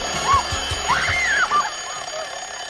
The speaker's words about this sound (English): Suddenly, she thrashes awake by her alarm clock, and Glenn sits up, awake.